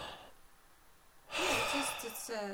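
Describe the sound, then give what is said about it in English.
A long, loud breath drawn in deeply to fill the chest after a quiet moment, rushing and airy for about a second, before a voice briefly starts at the end. “you fill up your chest.”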